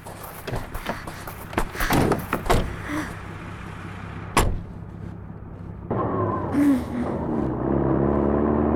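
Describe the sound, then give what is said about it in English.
Clunks and a sharp door slam give way to a truck engine that starts up and runs steadily, its droning pitch climbing as it revs and pulls away. “Does the truck still work? Yes, sir. All right. You two get in the back.”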